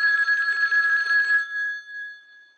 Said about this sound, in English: Until the phone rings.